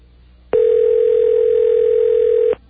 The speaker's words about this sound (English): This is really awful. Think of it. Somewhere inside the Washington Monument, a phone is ringing right now. And there's nobody there to answer it.